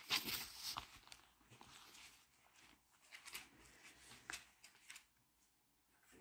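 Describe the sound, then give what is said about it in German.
Thin pages of a Bible being leafed through to Jeremiah chapter 23, verse 29, a run of crisp papery swishes and flutters that come in uneven bursts for several seconds, with no one talking. “Jeremia 23, das können wir kurz aufschlagen.”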